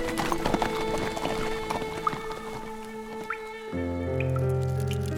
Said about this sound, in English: Tom sat on the molding straw within the dripping stone walls of his garrison dungeon cell